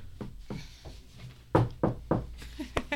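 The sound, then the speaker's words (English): Dry knocking on a hard surface mimicking a door knock: a few soft taps, then three louder, evenly spaced raps and a final quick knock, with no talking. “That's the bad knocking noise. Someone do a better one.”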